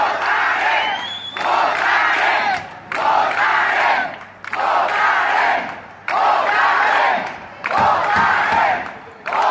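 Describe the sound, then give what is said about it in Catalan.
A large crowd of local residents chants the slogan "Votarem" in unison at dozens of Spanish National Police officers at the Pavelló Firal, around 4:45 in the afternoon, loud and rhythmic, with five forceful bursts of voices separated by brief pauses. “Va ser vora 4:45 de la tarda al pavelló Firal i els veïns van rebre les desenes d'agents al ritme de Votarem.”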